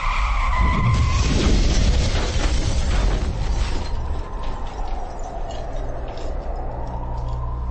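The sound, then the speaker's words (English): A car with its brakes cut and airbags disabled is accelerated to high speed: it roars and its tires screech before a loud, violent crash, followed by several seconds of rumbling, settling noise. No voices are heard. “Cutting brakes. Disabling airbags. Accelerating car to a high speed.”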